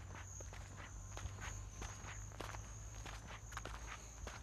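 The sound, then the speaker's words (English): Steady footsteps walking outdoors towards the roadhouse in Turkey Creek, about ten crunchy steps at an even pace, over a constant high-pitched insect drone and a low background hum. “I walked towards the roadhouse.”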